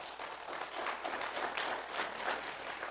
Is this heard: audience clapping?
yes